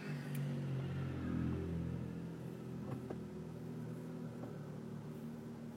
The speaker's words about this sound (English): Alright, this fire truck's going to make things a little difficult here. What do we got?